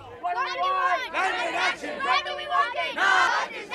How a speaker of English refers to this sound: The new day in South Africa brought singers and dancers onto the streets. Here in Johannesburg, they also wanted to send a message to next week's UN conference on climate change that the speed of action must be increased.